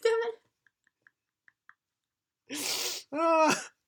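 A person crying: a short whimper, a few faint clicks, then a ragged sobbing gasp followed by a drawn-out, wailing cry, fairly loud.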